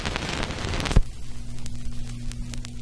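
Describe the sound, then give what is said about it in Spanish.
A steady hiss gives way to a soft thump, then a vinyl record's low hum with scattered sharp pops and crackles from the needle, irregular and fairly faint, with no voices. “Se ve que nos gusta el sonido de la aguja sobre el viejo disco, ¿eh?”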